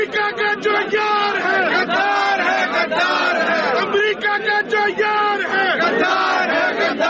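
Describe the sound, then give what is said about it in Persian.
A large crowd of Imran Khan supporters in the streets of Islamabad, Pakistan, chants slogans against the United States and Israel and in support of Imran Khan, loud and sustained, with rhythmic rising and falling shouts and a dense mass of voices throughout. “تظاهر کنندگان شعارهای علیه ایالات متحده و اسرائیل و در حمایت از عمران خان سر دادند.”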